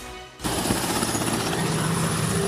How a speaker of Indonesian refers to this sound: Sebuah helikopter militer bertuliskan TNI Angkatan Darat MI-17 hilir mudik di atas Stadion Manahan, Solo dan memuntahkan kelompok penerjun payung Selasa siang.